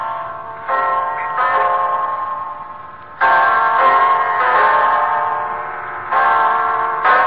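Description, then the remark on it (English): A clock chimes loudly, striking ten o'clock, its strikes coming one after another at a slow, steady pace, each ringing tone overlapping and lingering into the next. No one speaks. “It's 10 o'clock, Mrs. Reeves.”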